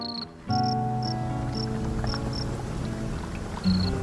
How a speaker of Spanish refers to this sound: Sereno, contento, el grillo comenzó a cantar nuevamente sus melodías de amor.